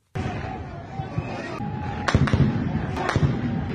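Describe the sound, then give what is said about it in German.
Sharp, cracking gunshots, two or three of them about a second apart, ring out at a protest near Khartoum, Sudan, over a steady noisy outdoor background with indistinct crowd voices, loud. “Ein Video auf Twitter. Schüsse sind zu hören.”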